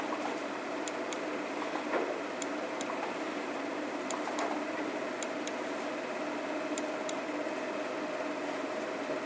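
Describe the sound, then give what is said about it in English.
Sharp clicks from class members' own computers at irregular intervals, about nine or ten in all, sometimes in quick pairs, over a steady low machine hum. No one speaks. “I hear clicking going, oh, well, half of you've got your own computers, that's why you can do it.”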